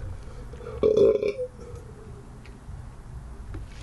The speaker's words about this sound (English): After burping Four Loko into a water cup.